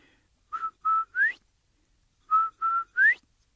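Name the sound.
whistle being blown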